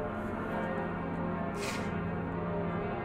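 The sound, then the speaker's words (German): The bells of Notre-Dame cathedral in Paris ring in a dense, continuous wash of overlapping tones, resonant and sustained, with no voices present. “Und das sind jetzt die Glocken von Notre-Dame.”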